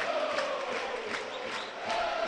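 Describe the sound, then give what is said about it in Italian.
A dense, steady roar of Pisa home football fans fills the stadium during a match against Parma as Pisa takes a corner kick, voices blending into continuous cheering and chanting with a faint sung tone running through it, sustained and loud throughout. “Sentite il tifo che non ha mai abbandonato la squadra di casa, nonostante lo svantaggio, nonostante un primo tempo non positivo, però Pisa ci crede ancora, ci credono i suoi tifosi.”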